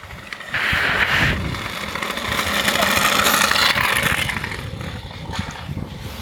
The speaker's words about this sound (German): Das war ein Kind auf dem Roller. Das klingt jetzt hier durch so schon mal ziemlich anders.